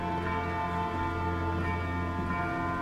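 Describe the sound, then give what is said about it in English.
Distant church bells ring continuously across the city surrounding a prison tower in an opera scene. Their overlapping tones blend into a steady, shimmering wash of sound at a moderate, even level, with no voices present. “There's a lot of bells ringing in the distance.”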